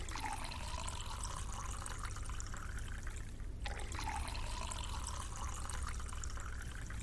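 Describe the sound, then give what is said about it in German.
Two glasses of water are served: water is poured steadily into one glass and then a second, the pitch of each pour rising as the glass fills, with a brief pause between them and no voices. “Zwei Wasser, bitteschön.”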